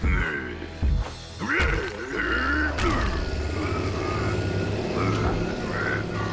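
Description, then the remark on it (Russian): A car engine rumbles steadily, with a whooshing surge early on and brief high, chirpy tones layered over the low mechanical drone. “Машина! Вжух!”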